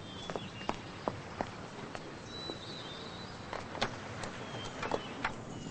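A woman runs out of an office to her car, her quick, hurried footsteps tapping across a hard surface in an uneven rhythm over a low steady rumble of background noise, with no voices.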